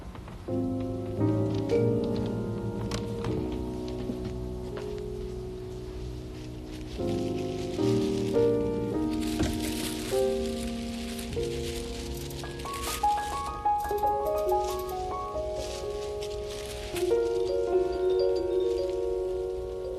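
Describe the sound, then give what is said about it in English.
A continuous shimmering, rain-like patter imitating flowing water and the sea, layered with sustained, gently shifting musical tones, moderately loud and steady throughout with no talking. “That's like water, isn't it? Just make the movement of water.”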